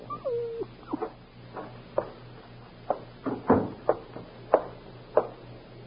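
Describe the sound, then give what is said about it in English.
A dog in Mr. Burley's apartment gives a short, falling whine, then makes a string of soft, uneven whimpers and snuffling yelps, with no one speaking, over a faint steady hum. “You know, Dora, this dog doesn't like Mr. Burley's apartment here.”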